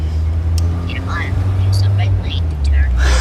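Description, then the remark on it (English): Steady low rumble of road noise from inside a moving car driving up the US East Coast on a road trip, constant throughout, with a person talking over the droning engine hum. “I was just saying to myself, too bad I don't need the sound of a car driving, because I got a lot of that.”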